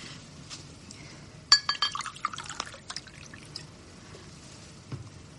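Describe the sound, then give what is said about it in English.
A drink is poured into a glass, with a sharp clink followed by a quick run of splashing, tinkling pours, then a quieter trickle and faint clatter near the end. “Let's drink to our friendship.”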